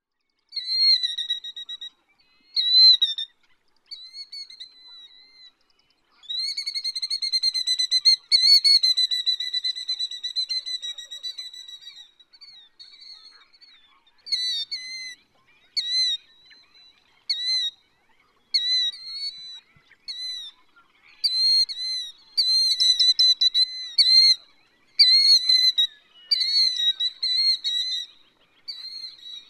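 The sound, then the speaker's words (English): A killdeer, a member of the plover family, repeatedly gives shrill, high-pitched calls in bursts, some drawn out and others quick and clipped, loud with short pauses between phrases. No one speaks. “When is a shorebird not really a shorebird? Well, that's easy. When it's a killdeer.”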